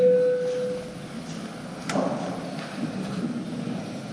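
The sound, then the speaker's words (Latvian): A parliament voting bell, called for just before a vote on amendments to the corporate income tax law in its second and final reading, sounds as a single steady electronic tone, clear and mid-pitched, lasting under a second, followed by a lone sharp click over a low murmur of background noise. “Tātad lūdzu zvanu.”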